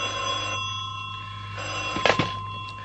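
desk telephone bell ringing

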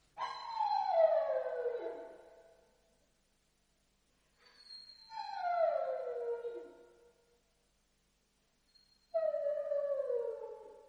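dog howling

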